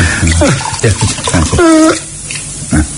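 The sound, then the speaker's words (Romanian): Water splashes and pours in brief bursts as a little water is sprinkled on a person, with vocal sounds and a short tonal cry mixed in over the running liquid. “Sache, stropește, mă rog, uite cu o leacă de apă”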